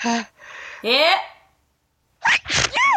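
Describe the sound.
Loud sneezes burst out in quick succession, a couple early on, then a pause of silence before another rapid cluster of sharp, voiced sneezes.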